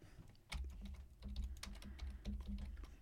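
Rapid, uneven clacking of fingers typing on a computer keyboard to enter text for a video clip, clear, with bursts of keystrokes and a low hum beneath; no one speaks.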